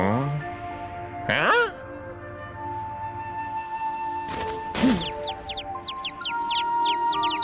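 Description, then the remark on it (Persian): Baby snow bird chicks up above a door chirp in a rapid, overlapping flurry of thin, high peeps through the second half, over a steady tonal background with a couple of brief swooshing sweeps earlier. “اونا جوجه پرنده های برفی هن.”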